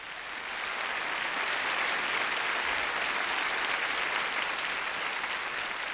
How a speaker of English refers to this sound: On bass, you heard him, and you know I heard your applause, so I know you dug, really dug. The great ….